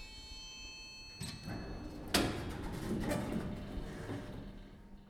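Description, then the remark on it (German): A small elevator's door slides open with a sudden clunk, followed by a few seconds of rattling and creaking mechanical noise over a low hum. “Also steige ich in den kleinen mobilen Raum, der sich klappernd und knarzend vor mir eröffnet.”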